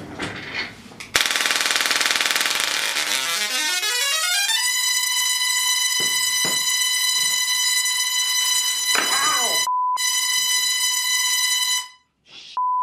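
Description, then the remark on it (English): A loud, harsh electrical discharge buzz from a Tesla coil playing a single tone with a lamp on, its output interrupted at audio frequency by a tunable interrupter. The pitch sweeps steadily upward for a few seconds, then holds a steady, piercing whine with brief dropouts before cutting off. No one speaks. “It's like punching air at audio frequency which makes this sound.”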